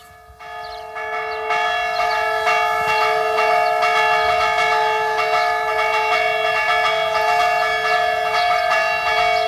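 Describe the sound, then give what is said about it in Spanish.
A church bell in the bell tower of the church of Adanero rings the fire call, struck rapidly and repeatedly so its tones overlap into a loud, continuous, urgent clangor, with no voices. “Hemos comenzado el programa en el campanario de la iglesia de Adanero y estamos escuchando toques de campana, que eran la forma de comunicarse. Este es el toque a fuego.”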